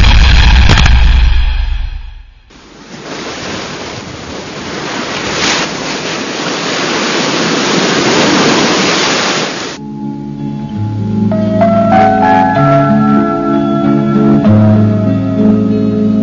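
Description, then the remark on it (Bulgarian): Sea waves wash and splash against the shore behind houses at a fishing settlement south of Burgas, Bulgaria, on the old road to Sozopol, in a loud, steady surge for several seconds, following a brief low rumble and giving way to music. “Километра южно от Бургас, по стария път за Созопол, има едно приказно място, където морето се плиска зад къщите.”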